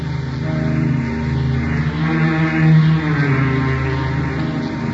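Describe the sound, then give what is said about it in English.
A motor launch engine drones steadily and loudly as the boat strains through billowing waves toward an island, with rain clouds gathering for a squall as it grows dark: a low, even hum over a rushing wash of water, with no voices. “Rain clouds were gathering for a squall as the motor launch strained through billowing waves toward an island looming on the horizon.”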